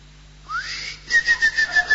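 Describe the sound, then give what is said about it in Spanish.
A whistled imitation of a cricket chirping inside someone's ear: a rising whistle, then six short, evenly spaced chirps in a steady rhythm, moderately loud, with no talking. “Es un grillo es.”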